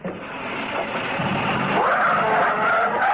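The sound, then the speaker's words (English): A motor car engine runs steadily, then revs higher and pulls away as the driver works the clutch and gas, its pitch rising in a loud, continuous drone with no voices. “you put your foot on the clutch and put it in first”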